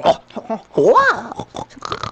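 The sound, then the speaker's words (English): A person imitates a cat with one drawn-out, whiny meow that rises and then falls in pitch, set among shorter, choppy vocal noises before and after. “That's what my cat sounds like.”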